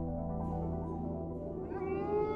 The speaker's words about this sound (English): The howl of the wolf, the sound of the unknown, but more familiar than we think, as our domesticated dogs are all descended from them.